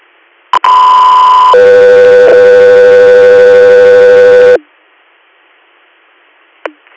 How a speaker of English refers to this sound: Alpha 3 Air, stand by for tones.